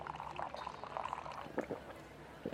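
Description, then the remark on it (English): Liquid is poured into a mouth in a steady, bubbly gurgle lasting a couple of seconds, with a few sharper splashy bursts near the end. No one speaks. “I'm going to pour this in your mouth.”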